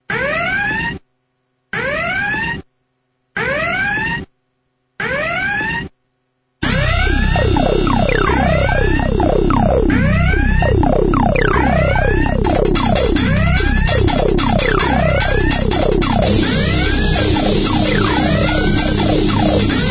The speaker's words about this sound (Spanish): Una semana más llegan las sirenas, llegan las alertas de seguridad.